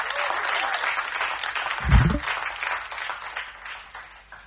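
A crowd bursts into loud, sustained applause for performers on stage, a dense wash of clapping that carries steadily through the whole clip, with a brief low thump partway through.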